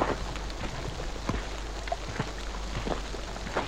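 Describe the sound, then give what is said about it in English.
Steady rain from a storm hisses throughout, with scattered louder drops pattering and a faint low rumble underneath, like thunder far off. No voices. “Must secure the village's power supply before the storm hits.”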